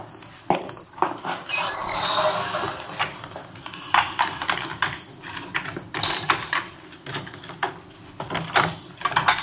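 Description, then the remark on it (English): The front door at 1456 Collis Avenue is unlocked and opened at 10:38 p.m.: a run of metallic clicks and rattles from a key and latch, with creaking and scraping as the door swings. No one speaks. “It was 10:38 p.m. when I got to 1456 Collis Avenue, the front door.”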